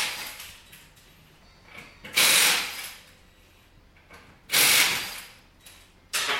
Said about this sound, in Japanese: ファンキーなミュージックの向こうに聞こえてまいりました。タイヤのボルトを外す音、響きますね。